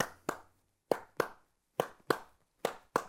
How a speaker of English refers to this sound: The beat is a pattern of pulses. Our simplest example is our heartbeat, or a steady clap as we count. 1, 2, 3, 4. If I clap a different beat,